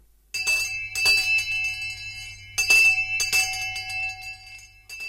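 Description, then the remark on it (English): A bell rings repeatedly in a workhouse to herald the actions of the day, with sharp metallic strikes. Each strike leaves a long, bright ringing tone that lingers and overlaps, heard clearly with no voices. “And every action of the day was heralded by the ringing of a bell.”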